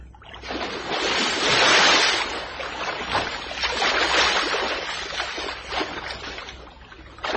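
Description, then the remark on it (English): Rough sea water at night surges and splashes steadily, with a broad rushing roar that swells and recedes like breaking waves, as someone dives into the sea. No voices are heard. “Oh, so that's why you're going to dive into the sea?”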